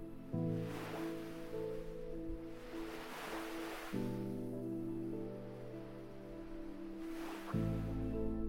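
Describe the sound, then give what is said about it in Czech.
Ocean waves of a calm sea wash ashore onto sand in the early evening in three slow, hissing surges that swell and recede, layered over a steady, low sustained musical drone; no one speaks. “Nohy máš v teplém písku a slyšíš šumění vln.”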